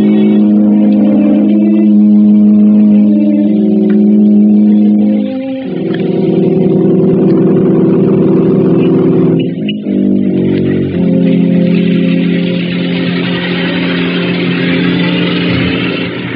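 A car engine runs loud for the whole stretch, its droning pitch jumping up twice as it revs and pulls in, a driver bringing the car round for his passenger. No one speaks.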